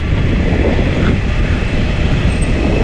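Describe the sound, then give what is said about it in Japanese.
A Hanshin Namba Line train rumbles loudly overhead as the recordist passes under its tracks, a steady heavy roar of wheels on rails with faint rhythmic clatter, dense low-end noise filling the whole stretch without any voices. “はい、今この走ってるのが今阪神難波線です。”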